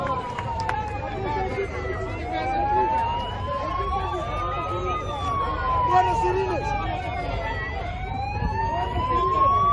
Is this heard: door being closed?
no